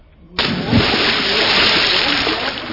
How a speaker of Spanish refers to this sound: Cuando cae al agua, algo pesado como el hierro.